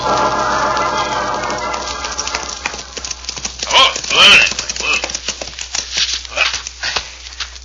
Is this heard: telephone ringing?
no